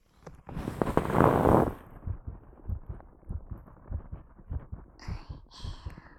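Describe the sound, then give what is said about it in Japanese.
A muffled scrape of contact as a stethoscope is placed on a person's chest is followed by a steady heartbeat, low thumps repeating in an even rhythm, dull and internal as heard through the stethoscope, with faint rustling near the end. “それで、聴診器の先を私の胸に当てちゃいます。”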